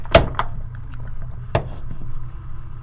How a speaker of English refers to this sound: Listen to that. I was buzzing a little. I wasn't doing that before. But that is a synchronous motor powering the timer. Just like a timer switch would. It's literally all it is. It's a synchronous motor.